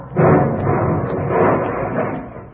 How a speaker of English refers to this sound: That sounded like an explosion. Explosion?